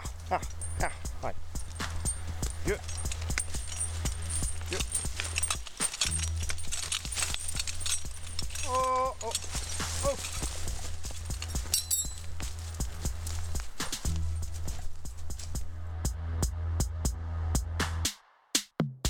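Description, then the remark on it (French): Heavy draft horses that are used to working clip-clop steadily, a continuous run of hard knocks over a low rumbling hum, with indistinct voices in the background. “C'est des chevaux qui ont l'habitude de travailler, hein, mais c'est pas toujours le cas au mot près qu'ils fassent ce qu'on leur demande, quoi.”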